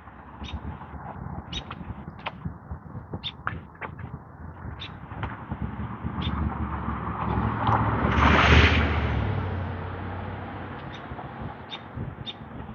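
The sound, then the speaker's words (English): A vehicle approaches and passes by, its rumbling whoosh swelling to a peak and fading, over steady street traffic on a Monday morning after rush hour, with scattered bird chirps throughout. “Lots of cars this morning.”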